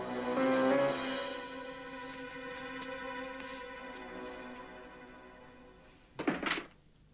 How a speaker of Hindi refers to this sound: अंदर जाओ, दरवाजा बंद करो।